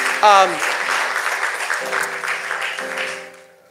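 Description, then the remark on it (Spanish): A crowd bursts into steady applause for Jesus that lasts several seconds and then fades out, with a brief voice and some sustained tones rising above the clapping. “Un aplauso a Jesús.”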